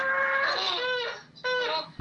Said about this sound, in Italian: Il castoro. Il castoro. Sai che stavo per dire l'orsetto lavatore? Io pensavo a robot cagatore, sinceramente.